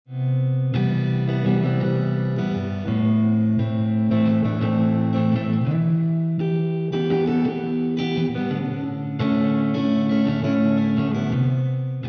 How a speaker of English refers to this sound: reverb creates distance, as if the guitar is being played in a neighboring universe.